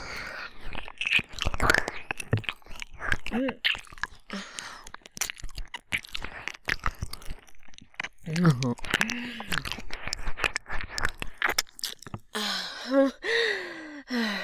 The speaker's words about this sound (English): I was sucking you so hard just then I almost swallowed you.